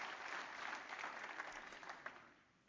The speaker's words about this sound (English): Give him a good clap offering one more time too. Come on, you can be seated.